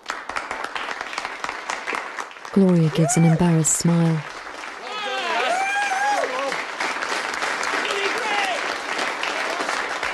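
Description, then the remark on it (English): Steady clapping builds into full applause from a crowd, dense and continuous throughout, while a voice speaks over it partway through. “He looks at Gloria and begins to clap.”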